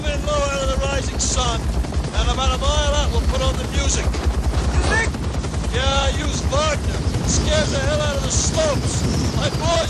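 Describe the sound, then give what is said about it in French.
A film scene of a helicopter attack at sunrise on a Vietnamese village led by Lieutenant Colonel Kilgore: rapid machine-gun fire and heavy explosions rattle on continuously beneath loud Wagner orchestral music with soaring operatic voices, the whole mix dense and relentless for the full length. “On entend les hélicoptères qui arrivent petit à petit au-dessus du village, les enfants sortent de l'école pour vite se mettre en sécurité, les soldats vietnamiens prennent leurs armes, 8 minutes de mitraillage et d'explosion sur du Wagner.”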